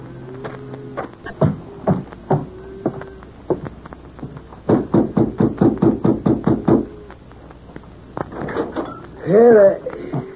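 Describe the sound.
A quick, steady run of about ten loud knocks on the wooden door of the Adams Ranch House, with people talking before and after the knocking.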